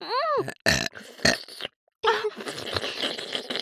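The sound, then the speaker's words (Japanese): A loud, deliberate burp rumbles after a short vocal warble, coming in a few quick croaking bursts, then a pause before one long, drawn-out belch. “ゲップにも愛を込めます。”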